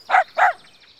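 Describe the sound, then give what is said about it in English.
A black and white pet dog barks twice in quick succession, two loud, sharp woofs with a short gap between them, followed by quiet. No voices are heard. “And we've got a pet dog.”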